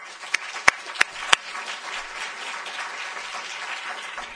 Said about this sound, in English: We're extremely grateful, and just ask for applause for this great panel.